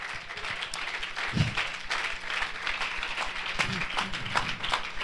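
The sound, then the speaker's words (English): A crowd claps hands to the Lord in a dense, steady wash of applause with no clear individual rhythm, sustained at an even level, with a few faint voices rising underneath. “Would you clap your hand to the Lord?”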